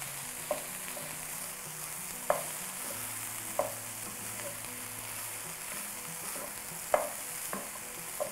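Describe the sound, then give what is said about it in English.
About 624 grams of Eve's vegan veggie ground, made of tofu and soy, sizzles steadily in a frying pan, a constant bright hiss broken by several sharp scraping clicks of a utensil stirring, with a low hum underneath and no talking. “And we're just gonna let this nicely fry together.”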